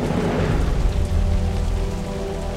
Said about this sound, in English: Now it happened in the meantime that the sky became black with clouds and wind, and there was a heavy rain.